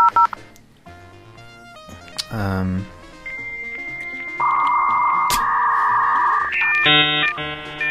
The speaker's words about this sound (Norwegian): Så bare boot opp telefonsvareren først. Det er litt viktig å gjøre. Få med seg. Han fungerer jo ikke uten det. Der var han.